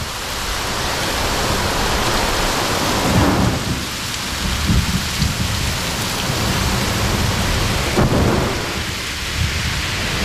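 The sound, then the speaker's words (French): Heavy rain pours down in a steady, dense hiss while deep rumbles of thunder roll through, swelling and fading. No voices, just the full storm. “Quand tout d'un coup, les nuages arrivent sur la côte, là, à Brest, tu vois, il y a un peu de hauteur, ça monte et il se met à pleuvoir.”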